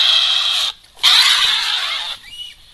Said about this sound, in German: Klingt irgendwie nach Katze. Genau, das ist die Wildkatze mit dem Spitznamen Eifeltiger. Das klingt aber sehr wild.